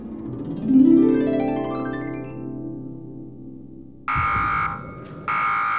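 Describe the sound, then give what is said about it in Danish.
A synthetic tone sweeps upward for a few seconds, then a loud, harsh electronic alarm buzzer blares in two close bursts with a short gap between them. No voices. “Alarm! Alarm! En ukendt væske er kommet ind under huden!”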